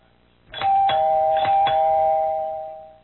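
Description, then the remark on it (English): A doorbell chimes twice in quick ding-dong pairs, its clear mid-pitched tones ringing on and slowly fading out. No one speaks. “Will you answer the door”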